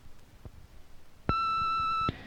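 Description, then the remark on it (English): A single sustained answering machine beep, a steady electronic tone lasting nearly a second, sounding loud and clear against a quiet background with faint noise before and after. “Leave your name and number at the beep.”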